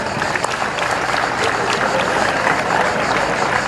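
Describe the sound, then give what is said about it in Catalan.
A crowd applauds steadily throughout, a dense wash of many hands clapping at once, fairly loud and sustained without pause for the whole stretch, applauding two people who have looked after the town's festival giants for 30 years. “Per a ells també un fort aplaudiment.”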